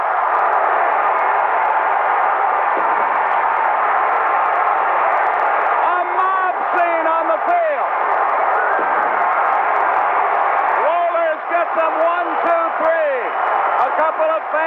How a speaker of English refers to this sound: Yes! The Atlanta Braves have given you a championship. Listen to this crowd.